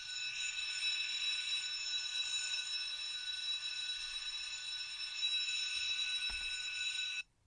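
A school bell rings in a school hallway in one long, unbroken burst, a loud, shrill, metallic clamor holding steady for about seven seconds before it cuts off abruptly. No one speaks.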